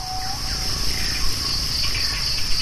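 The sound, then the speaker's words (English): Dense rainforest ambience recorded in Borneo, dominated by a steady, high-pitched insect drone, with cricket-like chirring throughout and faint bird calls woven in. A constant low rumble sits underneath; no one speaks. “In Borneo, they captured old-growth rainforests and protected areas next to rivers, and also disturbed ecosystems like oil palm plantations.”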